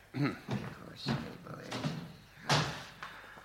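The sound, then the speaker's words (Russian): Window shutters and a door being closed and locked: a series of irregular wooden knocks, clunks and latch rattles, with a sharper bang near the end and faint murmuring underneath. “Жена, закрой ставни и двери запри.”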